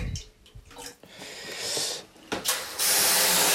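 Water is poured onto hot sauna stones as an infusion (Aufguss) in a sauna at 80 degrees, giving a few splashy bursts before a loud, steady hiss and sizzle builds and holds to the end.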